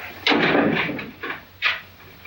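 side door opening

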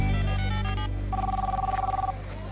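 cell phone ringing

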